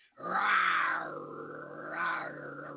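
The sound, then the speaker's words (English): A man's voice imitates a tiger's roar, like Tony the Tiger, a loud, drawn-out growling rumble that swells at the start and again near the end, heard alone without any talk. “I'm like Tony the Tiger.”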